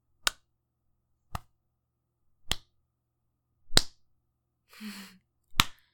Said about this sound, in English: With every smack, your whimpers get louder and louder. Music to my ears.